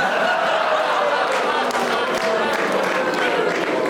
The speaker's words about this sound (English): It's no good booing him, he's doing his best.